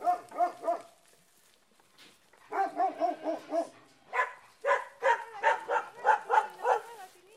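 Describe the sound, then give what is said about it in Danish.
Stray shepherd dogs roaming the middle of narrow mountain roads after dark in southern Italy, barking in quick, rhythmic runs of short yapping barks, with a brief pause between bursts; clear, with no talking over them. “Og hvor herreløse hyrdehunde og løsgående køer og muldyr træsker rundt midt ude på vejene efter mørkets frembrud.”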